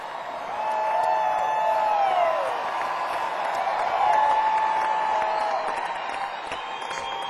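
A live concert audience, asked by the band to applaud at the end of a new song, breaks into sustained applause and cheering, steady clapping for several seconds while shrill whistles and whoops rise above the crowd.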